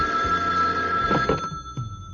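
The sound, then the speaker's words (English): A telephone bell rings at Nero Wolf's residence, heard in the plant rooms in the morning, with a bright, sustained metallic tone, loud and steady across the whole moment with no voices over it. “I was with Wolf in the plant rooms the next morning when the call finally came.”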